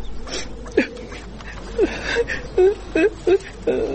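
A woman cries close by in short, halting sobs and whimpers, several wavering vocal bursts coming in uneven pulses over a faint background hiss.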